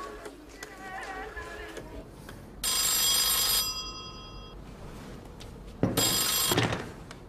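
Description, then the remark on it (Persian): A telephone rings twice during an outgoing call, each a loud, bright burst of about a second, separated by a pause, over a quiet background with faint voices early on. “نه یه تلفن دیگه بزنم الان.”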